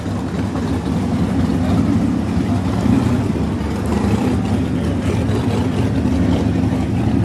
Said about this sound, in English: We try to rev it up, but it's not yeah. not that big time rev.